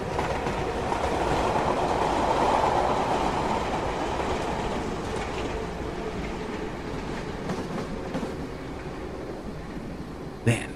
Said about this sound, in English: As he watches the train barrel into the station, Gruner also sees that off to one side of the tracks, in the field, the still-smiling man is signaling to the conductor that he doesn't have to stop since no one has bought a ticket.